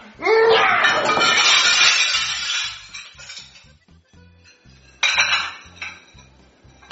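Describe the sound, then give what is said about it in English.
A loud crash of dishes and cutlery clattering and breaking as a tablecloth is yanked off a table, a long jangling burst that tapers off, followed by a second smaller clatter of crockery, with faint laughter underneath. “What was that loud noise? What happened to my dishes?”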